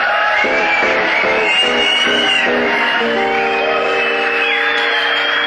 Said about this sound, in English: A round of applause for the guy that got the ankle bracelet hung on his body trying to get it off of his leg.